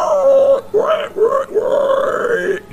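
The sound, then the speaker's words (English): A person vocally imitates a wild boar in a tabletop role-playing game, one of three boars fighting over a flank of steak spotting the approaching party: a series of loud, throaty grunts and snorts over a few seconds, with rising and falling pitch between short breaks. “And as you approach, the one of them spots, and it goes...”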